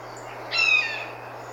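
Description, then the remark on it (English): A blue jay lets out a single brief, harsh, hawk-like scream, clear, with a steady low hum underneath and no talking, recorded in the daytime with a cell phone in a backyard. “So both recordings are a blue jay, and that second one, it sounds very hawk-like.”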